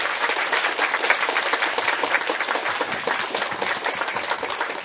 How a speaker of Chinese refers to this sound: 那我相信有很多人都是这样的伟大，所以我想给自己一个最大的鼓励的掌声。每一位，你们都最伟大。谢谢。